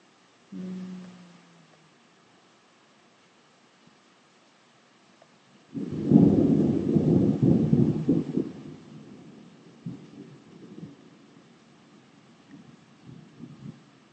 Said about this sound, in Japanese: というわけで、今、雷が鳴ってます。いや、ちょっと珍しい音でも取れるかなと思って、ちょっと放送してみたんだけど、俺喋ってたら意味ねえよな。